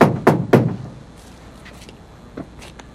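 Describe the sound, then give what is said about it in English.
Three quick, firm knocks on a brick-colored metal door at the rear entrance of a business, next to a set of wooden stairs, in early evening, in a steady rhythm, followed by near-quiet with a few faint soft thuds and rustles. “stand outside a brick-colored metal door next to a set of wooden stairs. Eddie knocks”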